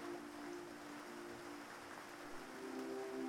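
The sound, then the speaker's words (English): Heavy rain pours down in a steady, dense hiss that fills the whole clip without letting up, with a faint low droning hum running underneath. “The rain pours down, and all you can do is keep the bow of the boat facing all of the waves that are coming at you.”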